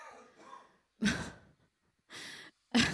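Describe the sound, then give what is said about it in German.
A strained, wheezy gasp for breath is followed by three harsh, separate coughs, fairly loud, with short pauses between them and no talking. “Jetzt atmet er nicht mehr. Ah, doch, er hustet noch ein bisschen.”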